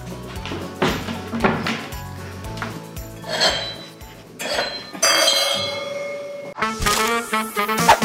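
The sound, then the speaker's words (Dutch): Drinking glasses clink and knock together as they're taken out, a series of bright clatters and rattles with brief pauses, ending in a louder jumble of ringing glass. “Ga ik even wat glazen pakken en dan ben ik even zoek mee.”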